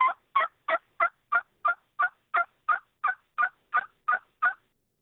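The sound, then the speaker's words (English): A hen turkey yelp produced on a turkey call, simulating a mother hen gathering her scattered flock, used in fall turkey hunting: about fourteen raspy, evenly spaced notes in a steady rhythm, clear, with no talking. “Just a simple yelp like that can simulate the mom trying to gather all the babies back together.”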